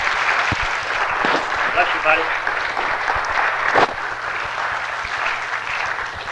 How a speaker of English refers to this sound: Truly, this man needs no introduction. Would you give a big hand this morning to Dr.